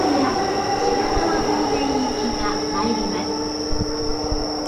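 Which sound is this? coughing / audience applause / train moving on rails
train moving on rails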